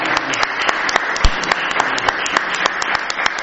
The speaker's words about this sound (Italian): Ma sì, ma dai, ma come, anzi, un applauso.